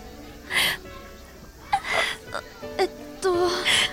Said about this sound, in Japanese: お待たせ。 泣いてる？待たせてごめん。どうした？